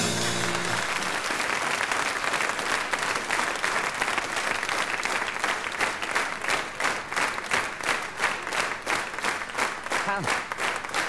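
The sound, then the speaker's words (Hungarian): An audience applauds steadily for several seconds, a dense wash of many hands clapping that stays loud throughout, with a brief voice surfacing near the end. “Ahogy tapsolnak, ezzel önök is egyetértenek, igaz?”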